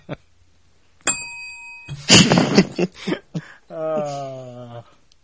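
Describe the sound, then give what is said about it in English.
A single bright bell strike rings out clearly and fades over about a second, followed by noisy rustling and a short droning vocal sound. “He wanted the bell back.”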